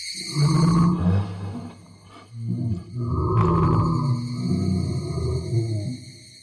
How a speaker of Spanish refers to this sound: El timbre se volvió más fuerte y luego se transformó en otra cosa. Era como un chillido de alguna clase de insecto. A continuación, volvió a cambiar, pero ahora en un ruido ensordecedor. Algo entre un rugido y un grito que provenía de todas partes.